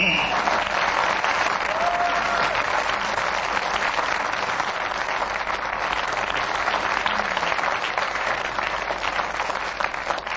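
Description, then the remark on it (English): A sustained burst of studio audience applause at the radio panel show Just a Minute, with dense and steady clapping at a loud, even level for about ten seconds, no pauses and no voices over it. “Well, there's no racket like Just a Minute, and when the audience here make a racket like they did, we know that we are winning, and we do hope you've enjoyed yourself.”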